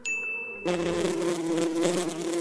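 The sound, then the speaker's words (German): A bee buzzing steadily in flight, its wings making a continuous droning hum in the air with slight wavering in pitch, heard alone with no voices, following a brief high tone at the start. “Wenn sie fliegen, erzeugen ihre Flügel ein Geräusch in der Luft. Das nennen wir Summen.”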